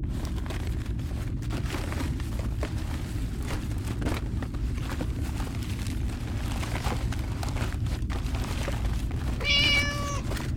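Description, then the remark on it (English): A single short cat meow rings out near the end aboard an evacuation ship, clear above a constant loud low rumble like heavy engine or machinery noise that fills the whole recording. “So a cat.”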